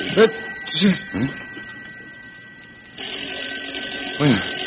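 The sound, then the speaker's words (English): A desk telephone bell rings continuously with a bright, metallic trill throughout, fairly loud, while voices murmur faintly in the background. “Am I hearing things? It's the phone,”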